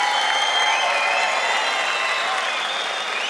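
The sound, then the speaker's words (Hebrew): Audience applause with scattered cheering as a Kol Chai Music award certificate is presented, a steady wash of clapping that holds at an even level for a few seconds, with whistly high tones running through the crowd noise. “מצד העשור של כל חי וכל חי מוזיק, נקיות כפיים.”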